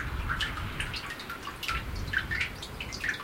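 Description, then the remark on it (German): Water trickles and drips steadily with small bright plinks and gurgles, a continuous flow of liquid through a street drain on a quiet village main street, with no voices present. “Man hört sogar, wie das Wasser die Tolle durchläuft.”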